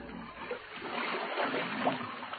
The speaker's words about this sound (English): That's where the water comes in.